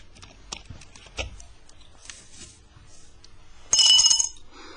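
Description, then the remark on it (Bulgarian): Light glass clinks and taps, then a brief, bright splash of liquid being poured into a glass near the end, with no one speaking. “Не е зле да пинеш. Сигурно не можеш да говориш и без чаша в ръка.”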